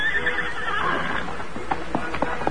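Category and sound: animal, horse neighing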